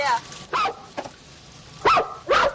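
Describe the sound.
A human voice imitates a dog barking in a performed screenplay scene, with about four loud, short woofs spaced unevenly apart and a softer yelp in the middle.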